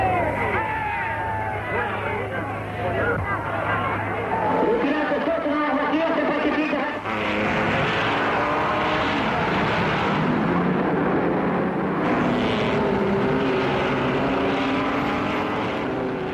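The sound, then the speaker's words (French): A dense, loud outdoor din at the Le Mans motor racing circuit in France on Saturday 11 June at 16:20: crowd chatter blends with a steady mechanical engine drone, continuous throughout with no pauses, voices murmuring and calling within the noise. “Cette ambiance, je vous propose de l'écouter dans une archive. Voilà ce que ça donnait ce samedi 11 juin.”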